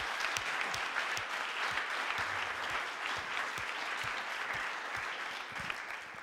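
An audience claps steadily for several seconds, a dense, even patter of many hands with sharp individual claps popping out, holding at a fairly constant level and easing slightly at the end.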